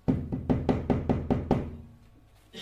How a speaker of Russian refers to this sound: Вот Батшева подошла к спальне Шломо и постучалась.